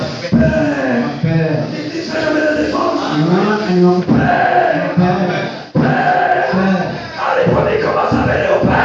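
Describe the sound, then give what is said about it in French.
Loud, wavering goat bleats fill the scene almost continuously, several overlapping cries rising and falling with a tremulous quality, mixed with a busy crowd-like murmur of voices. “Il y a une maman à son c'est la chèvre, non? Amen. C'est la brebis, non? La chèvre.”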